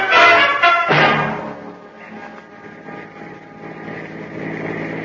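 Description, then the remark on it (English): A car engine runs steadily with no one speaking, starting loud and rough before settling into a continuous droning hum, as if heard from inside a moving vehicle. “put him in the car, Sam, and we'll all go for a ride.”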